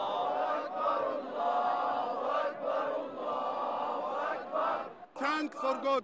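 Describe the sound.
A large celebrating crowd in Tahrir Square, Egypt, cheers and chants in a steady, loud roar of many overlapping voices, ending with several rising, high-pitched shouts or ululating calls.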